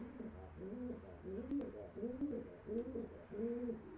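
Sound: pigeon cooing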